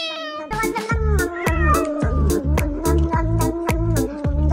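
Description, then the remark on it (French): A cat meows repeatedly over an upbeat music track with a steady thumping beat, the meows sounding like they are woven into the song and fairly loud. “Sauf que bon, il y a eu les vidéos de chats.”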